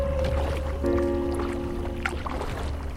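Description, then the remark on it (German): Paddling a boat on the Als river: soft splashes and trickling water over a steady low rumble, with a faint sustained hum running through it and no voices. “paddeln auf der Als.”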